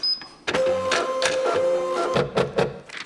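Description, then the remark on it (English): A printer, presented as the BBC News Condenser AI robot, starts up with a short high beep, then whirs and clatters as it feeds and prints a page, a copy of Edvard Munch's painting The Scream, with a steady mechanical hum and a few sharp clunks near the end. “Well, it's just printed off this.”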